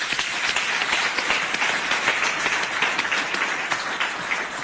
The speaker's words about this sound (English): Shall we please give Telkom a round of applause?